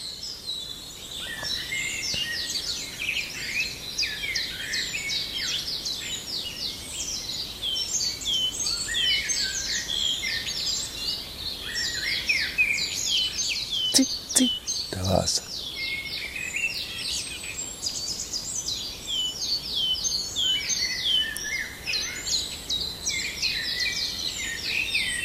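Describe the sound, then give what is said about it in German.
A common chiffchaff sings from a distance amid a dense, continuous chorus of other birds, its repeated two-note song blending into the steady high chirping and trilling. “Das ist der Zilpzalp”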